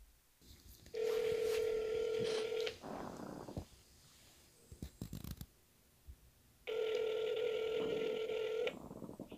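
A phone call being placed to a birth mother at night: two long, steady ringback tones separated by a pause of several seconds, with brief clicks and beeps of dialing in between. Clear, no voices.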